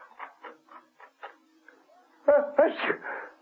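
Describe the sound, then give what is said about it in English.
A run of short, quick gasping breaths builds up, then two loud, violent sneezes burst out, the second harsher and more explosive. “Emma Peel heard the dreaded sneezing and darted out of the office”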